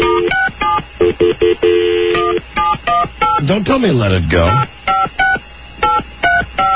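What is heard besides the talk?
touch-tone phone dialing tones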